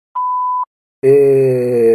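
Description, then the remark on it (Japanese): An answering machine's single steady beep tone, clear, lasting about half a second, followed after a short pause by a loud, low, buzzy sustained drone. “メッセージは発信音の後にどうぞ。”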